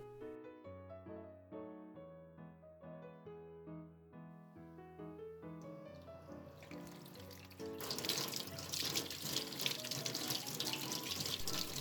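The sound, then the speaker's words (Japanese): Gentle melodic music plays, then a faucet starts running, building into a loud, steady gush of tap water that continues to the end as hands are washed before making a packed lunch. “さて、手を洗ったら冷蔵庫の中を見る。”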